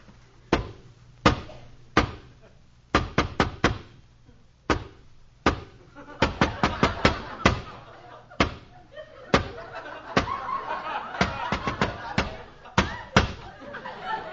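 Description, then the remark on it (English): A long, patterned special knock on the door of Fagin's lodgings: sharp, loud raps that come singly and in quick bursts of three or four, repeating in an elaborate rhythm over a faint low hum. “I'll give the special knock.”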